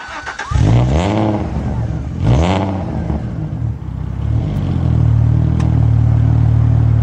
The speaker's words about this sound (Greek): Εκπληκτικό κινητήρα αυτό ο ατμοσφαιρικό γρήγορο κινητήρα. Με άμεση απόφαση. Fashion κινητήρα. Χαρακτηριστικό ο ήχο του. Έτσι. Αν ακούς αυτό τον V6 να βρικάτε, ξέρεις ότι μιλάς για Αλφα Ρωμαίο.